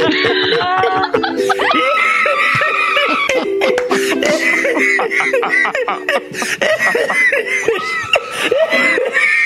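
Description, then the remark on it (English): A woman, a teacher, screams loudly and almost nonstop for several seconds in a song about being in isolation during the pandemic, her shrill voice wavering up and down in pitch in short, breathless bursts, with no words spoken. “Just screaming.”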